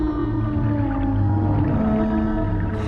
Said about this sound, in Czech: Ať je šťastný nebo v tísni, keporkak vše říká písní.